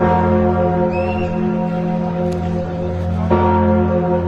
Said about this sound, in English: The bells of the famed Notre-Dame Cathedral rang out tonight as people laid flowers at a makeshift memorial to honor those killed.